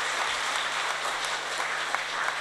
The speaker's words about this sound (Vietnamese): Nên mong quý vị hãy cho một tràng pháo tay thật là lớn để mừng cái niềm vui của mình.